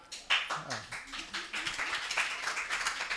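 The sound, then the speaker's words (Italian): Spontaneous audience applause at the third edition of Writing for Toilet, a dense patter of many hands clapping at moderate loudness, with a few voices murmuring underneath near the start before the clapping fills in steadily. “Un applauso spontaneo è sempre bellissimo.”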